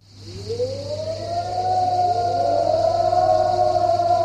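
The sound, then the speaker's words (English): A civil defense siren sounds at dawn in Cyprus, half a century after the invasion that divided the island. It winds up from a low growl to a steady, sustained wail, its rising pitch leveling off into a loud, continuous tone with no voices present. “The siren sounds at dawn in Cyprus, exactly half a century after the invasion which left the island divided.”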